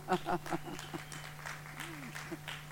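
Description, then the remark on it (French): A small audience claps in a loose, uneven burst of applause, fairly soft, with a steady low hum underneath and a voice briefly audible among the claps. “Ouais, on peut l'applaudir, là.”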